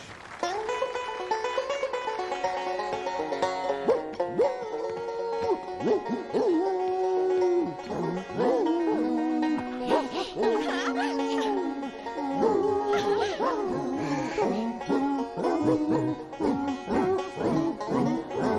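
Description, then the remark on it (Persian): A troupe of singing dogs howl together in long, wavering tones that rise and fall almost like a melody, loud, carrying on steadily with no talking. “کاش بابات بوده میدید چیزه این سگا بهتر از آواز خوندنه اونه.”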